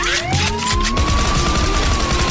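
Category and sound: vehicle, police car siren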